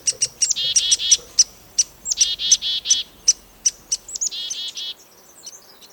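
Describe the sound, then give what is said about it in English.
Chickadees and a woodpecker call while foraging together: a quick series of bright, high chirps and buzzy notes, clear, tumbling over each other before stopping near the end. No one speaks. “The watchdog chickadees alert the close-focused woodpecker when there's danger.”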